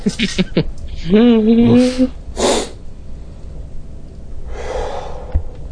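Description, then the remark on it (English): A person voices a drawn-out, gruff woof imitating a dog's bark, followed by a sharp breathy burst and a quieter exhale. “My old lady boof sounds. Woof sound.”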